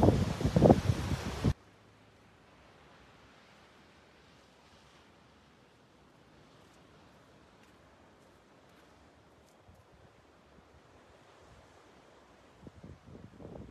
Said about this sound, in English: Yes, it's windy out here.